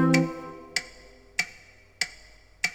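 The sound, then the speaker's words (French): An alarm clock ticks steadily, five crisp, evenly spaced clicks a little over half a second apart, heard clearly on their own after a brief musical tone fades at the start. “Tic tac, tic tac, mon réveil matin.”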